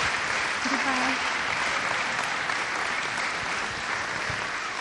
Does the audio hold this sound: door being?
no